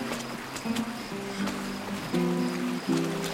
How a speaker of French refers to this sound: Va par là, c'est la rivière.